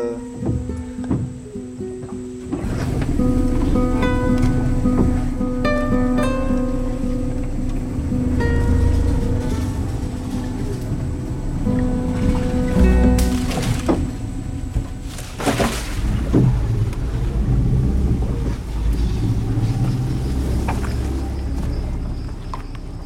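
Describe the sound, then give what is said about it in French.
An outboard motor on a boat is restarted after a few quiet seconds and keeps droning steadily and loudly, its engine hum mixed with rushing water and occasional knocks and splashes. “Bon bah là, je remets le moteur, hein. On va casser un peu la tranquillité...”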